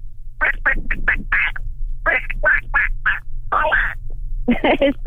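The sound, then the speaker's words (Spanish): A person imitates a duck in a best-farm-animal contest, giving a long run of nasal quacks in quick bursts with brief pauses between groups, fairly loud, over a steady low background hum. “¿estás lista para hacer tu imitación de pato?”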